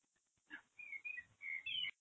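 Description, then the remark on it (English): Birds sing outside a window in a quick run of bright whistled notes and chirps, several phrases in a row, soft, with no voices. “Okay, I can hear the birds singing.”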